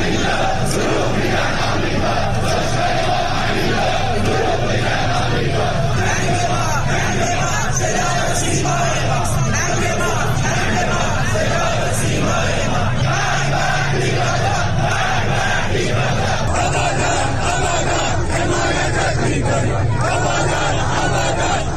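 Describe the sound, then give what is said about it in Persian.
A large crowd of protesters in Iran, including in Abadan near the ruins of the collapsed Metropol building, chants slogans in the street on a Friday night, in loud, rhythmic unison, voices rising and falling together in repeated phrases over a constant roar of many people shouting for the whole stretch. “ویدیوهای به اشتراک گذاشته شده در اینترنت اجتماعات انبوهی از تظاهرکنندگان را جمعه شب در شماری از شهرهای ایران از جمله در آبادان در نزدیکی ویرانی ساختمان متروپول و در سطح خیابان در حال شعار دادن نشان می‌دهند.”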